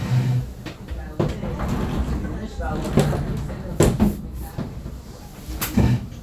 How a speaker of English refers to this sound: Let me close the door here, it's making noise.